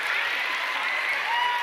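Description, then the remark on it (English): A crowd claps steadily for the dot racers after a race, producing a dense, continuous wash of applause, with a few voices faintly mixed in but no clear speech. “Big round of applause for our dot racers.”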